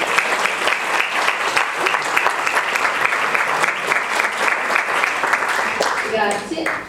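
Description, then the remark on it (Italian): Sustained audience applause, a dense steady roar of many hands clapping at once, loud throughout, with a few voices briefly audible near the end. “Buona applauso.”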